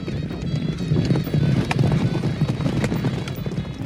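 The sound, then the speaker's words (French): Many horses galloping together during a game of buzkashi, riders whipping their horses, a dense, continuous drumming of hooves with sharp clattering accents, loud, with no voices over the thundering rhythm. “Il l'attrape d'une main tout en restant à cheval.”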